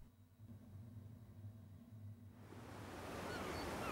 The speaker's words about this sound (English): Gentle waves lap a stretch of beach beneath brooding grey clouds.